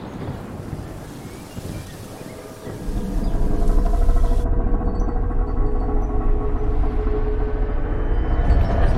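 Strong storm wind roars and buffets steadily, surging louder about midway and staying harsh and rumbling to the end, with no voices.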